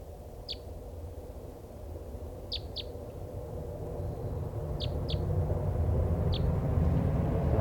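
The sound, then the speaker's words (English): A free-flying bird, the last uncaught one of a flock of five, gives a type three call: about six short, high chip notes, some in quick pairs, spaced irregularly over a steady low rumbling background. “This is the one still free. It sounds like a type three.”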